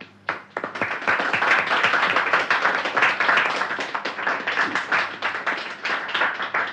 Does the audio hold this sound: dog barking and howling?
no